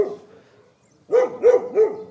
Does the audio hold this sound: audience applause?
no